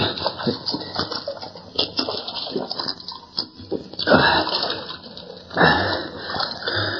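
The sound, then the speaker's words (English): A man drinks water, with wet sloshing and slurping noises over a steady hiss, and two fuller gulping bursts toward the end. The sound is moderately loud. “it's water. Take a drink.”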